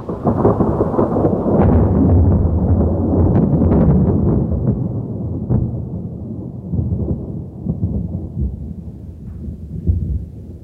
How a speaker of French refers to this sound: Dehors, à deux pas du village, éclate un violent coup de tonnerre, en même temps que le ciel se rompt pour libérer la pluie que nous attendons depuis des mois.